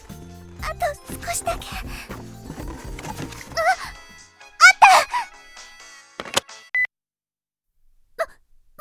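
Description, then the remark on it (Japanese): A mobile phone somewhere in a room rings with an incoming call, a repeating melodic ringtone, while a voice makes brief sounds over it. The ringing breaks off partway, leaving short scattered noises and near silence. “うん、早く見つけないと、このままじゃせっかくかかってきた電話が切れちゃう。”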